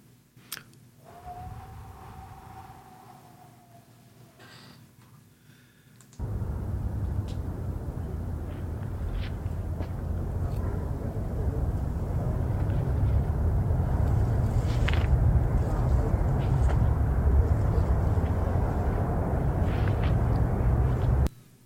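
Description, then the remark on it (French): Wind in Victoriaville blows in a steady, loud rush with deep low rumbling, arriving abruptly after a few quieter seconds that hold a faint wavering whine, then holding strong and unbroken to the end. “Je réalise aussi, en écoutant ce vent-là, je réalise comment le vent, il nous ramène intérieurement dans ce vent de silence.”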